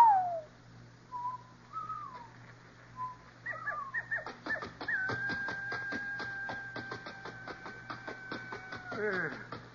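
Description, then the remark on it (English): Coyotes howl in the CBS Radio drama Luke Slaughter of Tombstone: a few short wavering yips and cries, then a long sustained howl that slides downward at the end, over a steady rhythmic clopping in the background. “Beginning to know all the coyotes by name.”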